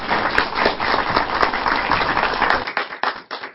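Audience applause welcoming a guest to the stage at a poetry gathering in Abu: a dense wash of many hands clapping steadily, then thinning into scattered individual claps before fading near the end.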